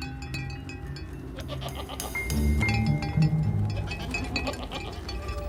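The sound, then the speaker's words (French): Several goats bleat in overlapping, wavering calls amid the shuffle of hooves, with a faint clink of a bell now and then, louder in the middle; the herd is walking about 5 metres above the listeners. “Nous avons alors entendu des chèvres marcher à 5 mètres au-dessus de nous.”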